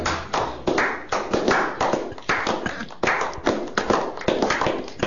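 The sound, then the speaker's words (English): A played applause sound effect, given as a birthday round of applause: steady crowd clapping fills the whole stretch, dense and crackling with no pauses, holding an even, fairly loud level from start to finish with no voices over it. “Let's have a real birthday, well-wishing, congratulatory round of applause”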